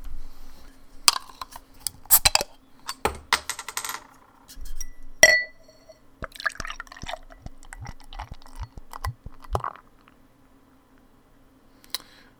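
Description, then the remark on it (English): A bottle of dark spring beer, brewed with Munson's chocolate cocoa powder and cocoa nibs, is opened with a few sharp clinks and knocks. The beer glugs steadily into a glass, its pitch rising as it fills, then everything goes quiet. It pours black with a tan head. No one speaks. “Let's go ahead and crack it.”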